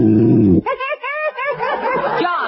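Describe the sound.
A man's exaggerated snore in bed, performed by a voice: a buzzing, rumbling inhale followed by a wavering, whistling exhale with warbling tones, loud.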